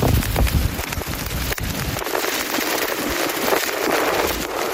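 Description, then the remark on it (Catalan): Heavy thunderstorm in the Lleida region with dense, steady pelting of hail hitting surfaces, while very strong wind gusts buffet the microphone with deep rumbling in the first couple of seconds. No voices. “Aquesta tempesta d'ahir amb calamars, ratxes molt fortes de vent, ha causat estralls en diversos conreus de les comarques de Lleida.”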